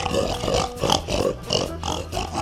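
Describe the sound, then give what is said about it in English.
An agitated pig grunts and squeals in quick, rough bursts, about five harsh snorts in a row, loud with no pauses of silence between them. “The rat gets in the bin with Tim's pig. The pig is mad.”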